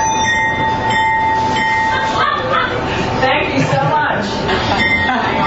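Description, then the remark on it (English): A man's 55-foot-long personal train rumbles steadily along railroad tracks in Middletown, Pennsylvania, delivering takeout meals, loud throughout, with a faint high metallic whine over the clatter and indistinct voices in the background. “A Pennsylvania man is using his 55-foot-long train to deliver people's takeout meals.”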